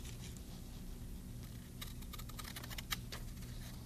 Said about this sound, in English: And we cut them up with a special pair of scissors that we have here.